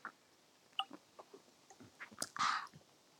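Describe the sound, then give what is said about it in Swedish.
Someone takes a quiet sip of tonic water while sitting on a lawn outdoors: a few soft mouth and glass clicks, then a brief slurping swallow. No one speaks. “Jag ska bara ta en klunk. Skål i tonic.”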